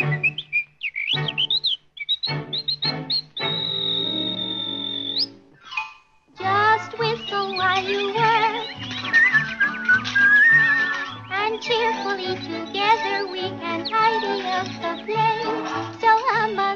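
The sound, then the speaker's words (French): A bright, high whistled melody in short pure notes with one long held tone, whistled while working at cleaning a house, then a lively full band of instruments and voices joins in, loud. “Siffler en travaillant, en voilà une bonne idée.”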